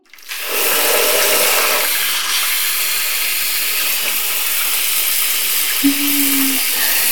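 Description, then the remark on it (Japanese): A shower sprays water in a steady, broad hiss that starts abruptly and runs continuously, wetting the head of a person seated on a chair before washing, with no talking; a brief low tone appears near the end. “それじゃあ、シャワーで濡らすね。”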